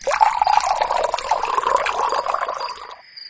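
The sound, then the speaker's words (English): Water pours steadily into a glass for about three seconds, a bright, gurgling stream that rises slightly in pitch before stopping, with a faint high ring lingering at the end. “I need a glass of water. Oh, okay, drink water, then brush your teeth, then go to bed.”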